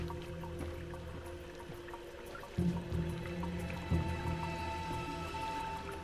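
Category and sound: household object, shower water running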